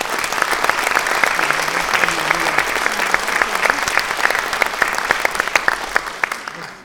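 Steady audience applause fills the whole stretch, a dense patter of many clapping hands at an even, fairly loud level, with a few faint voices murmuring underneath.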